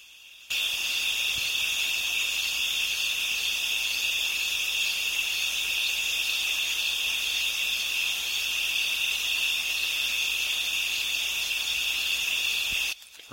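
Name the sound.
crickets chirping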